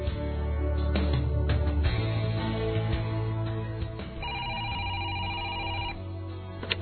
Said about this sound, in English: Gretchen is in the kitchen when the phone rings.